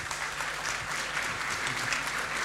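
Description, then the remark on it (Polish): Steady applause from an audience fills the whole moment, a dense, even patter of many hands clapping at moderate loudness with no voices standing out. “Brawa.”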